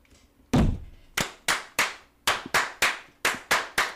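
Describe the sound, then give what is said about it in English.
A capped water bottle is slammed down on a table again and again during a toast, about ten sharp thuds, the first heaviest, then a quick uneven rhythm, with no voices. “Because I'm slamming it down on the table.”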